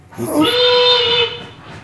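A single steady whistle blast blown by a railway worker to signal a train's departure, loud, holding one bright pitch for about a second before cutting off, with faint background hiss around it.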